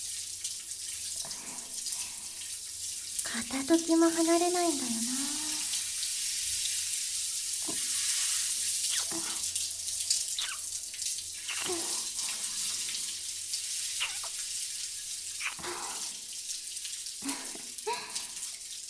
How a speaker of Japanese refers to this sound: お湯ちょうど良くなったかな。シャワー熱くない？